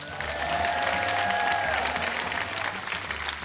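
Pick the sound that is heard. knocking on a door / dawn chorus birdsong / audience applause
audience applause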